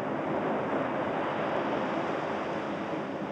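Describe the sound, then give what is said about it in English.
Steady, full-bodied wash of waves lapping a shore on Saipan in the South Pacific, a constant hiss and rumble with no clear breaks between swells, even in level throughout, with no voices. “Singing under the stars as the waves lapped the shore made a pretty fine time”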